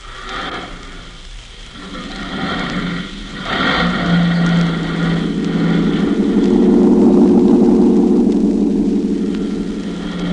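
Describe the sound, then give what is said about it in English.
A van's engine turns over and catches as a man gets in the cab, then settles into a steady low rumble that builds and drones on as the vehicle drives off, with no voices. “And then quickly, he gets in the cab and drives off.”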